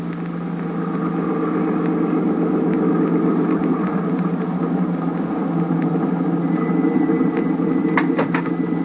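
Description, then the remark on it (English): A car engine hums steadily as the vehicle drives along, a constant low rumble with a few faint clicks and rattles near the end, and no voices. “I've got my car right downstairs.”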